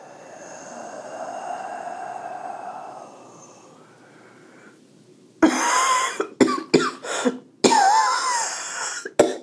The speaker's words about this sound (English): You know, every time you get to the end of that exhale, you cough.